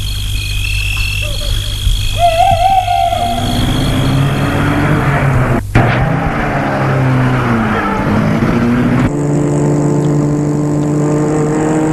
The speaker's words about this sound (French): Le chauffeur lui ouvre la portière arrière, il entre dans la voiture, puis le chauffeur entre à son tour pour mettre la voiture en route.